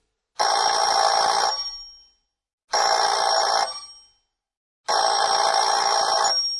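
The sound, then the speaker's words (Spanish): A telephone rings three times in a steady pattern as an outgoing call is placed, each ring a loud, bright burst lasting over a second and trailing off, with short silent gaps between. No one speaks. “Tengo que hacer una llamada. Bien. Ya sabe dónde está el teléfono.”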